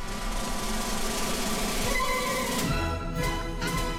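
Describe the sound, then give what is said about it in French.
Rossini's La Gazza Ladra overture plays steadily, with dense sustained string and wind tones and a few bright, crashing accents toward the end. No voices are heard. “Donc c'est la Gazza Ladra, ouverture de Rossini.”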